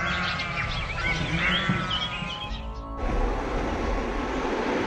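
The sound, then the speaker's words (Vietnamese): Goats being let out of their pens in the mountains in spring bleat in a cluster of wavering, overlapping calls for a couple of seconds, before the sound cuts abruptly to a steady, noisy outdoor hiss. “Bò và dê bị giam hãm trong chuồng đã bắt đầu dậm chân, đều được thả ra ngoài.”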